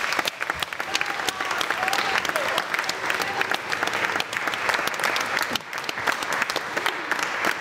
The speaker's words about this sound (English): And I actually think the children, but also the teachers, who have so many reasons to help bring this all together, deserve an enormous round of applause.